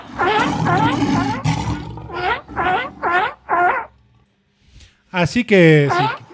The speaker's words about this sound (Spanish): Y a una foca y una morsa de Long Beach. Pero solo he traído el sonido de la foca. Vale. El de la foca es este,